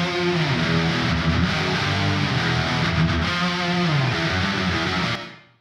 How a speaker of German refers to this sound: Und jetzt laufen alle 6 Gitarren quasi auf unseren Kreuzhall. Hören wir doch mal kurz, wie das Ganze zusammen klingt.